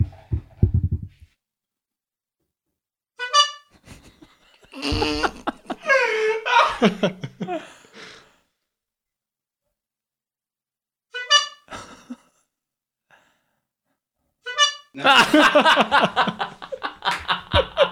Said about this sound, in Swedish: Så ett tut för varje bröstvårta ni ser. Okay. Här får du en tut av mig.